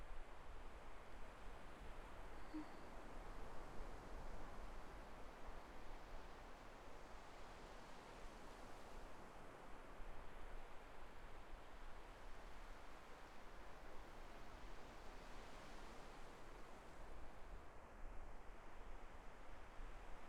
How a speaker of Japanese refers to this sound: 少し、波の音を聞いて、落ち着く。